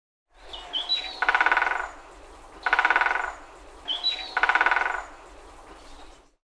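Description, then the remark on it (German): A woodpecker drums on the bark of a tree near a picnic spot in three rapid, rattling bursts, evenly spaced and fairly loud, each preceded by a short high bird chirp, with no talking. “Da muss irgendwo ein Specht sein.”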